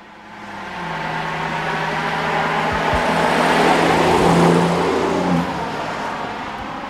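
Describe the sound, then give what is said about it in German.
A BMW 340i car with over 300 hp revs up and accelerates past from 50 km/h in a standard noise test measuring 69 decibels, its steady rising drone swelling to a peak midway before easing off as the vehicle moves away. No one speaks. “Das ist ein BMW 340i, ein Auto mit über 300 PS.”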